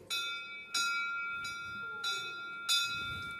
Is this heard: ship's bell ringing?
yes